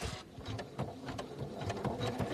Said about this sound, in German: Also, jetzt beginnen die 18 Minuten Nähmaschinen-Tackergeräusch.